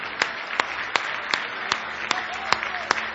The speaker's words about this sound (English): Give the Lord another big hand clap of praise.